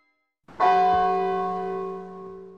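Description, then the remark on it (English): A single deep bell of a clock outside strikes once for one o'clock, its rich metallic tone ringing out loudly and then slowly fading over a couple of seconds with no voices. “Scrooge waits and listens to the clock outside.”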